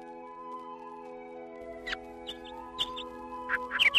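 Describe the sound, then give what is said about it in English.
Birds chirp their morning songs in the hazy early hours by a shore as anglers arrive to fish for bass, short, high bursts over a steady humming drone, sparse at first and then busier and louder toward the end, like a morning chorus starting up. “In the hazy early hours, as the birds chirp their morning songs, anglers approach the shore.”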